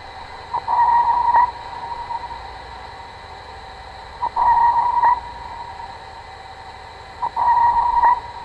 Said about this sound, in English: Acoustic means are also used by humans to explore the ocean. With sonar sent out by marine vessels, the return echo of the sound supplies data on objects underneath.